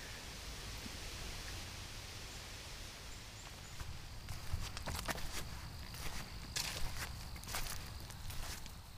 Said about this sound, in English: This afternoon we're walking, we get a little more crunch to here, and there's a little bit of a breeze. There's a whole high canopy wind sound.